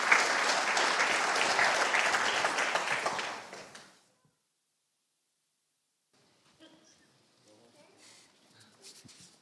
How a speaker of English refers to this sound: Why don't we give a round of applause as some of them make their way up.